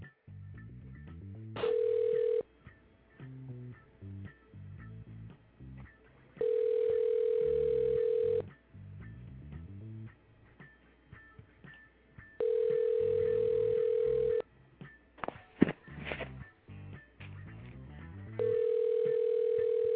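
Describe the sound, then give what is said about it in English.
A telephone ringback tone repeats four times as a phone call is placed, each steady buzzing burst lasting about two seconds with gaps between, over a faint low backdrop of muffled music. “Let me make a quick call real quick.”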